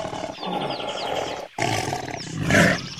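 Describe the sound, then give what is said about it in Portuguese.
A jaguar roars in rough, rumbling bursts that cut out briefly midway, then swell to their loudest near the end, with thin chirping calls above and no talking. “Está brincando com aquela onça!”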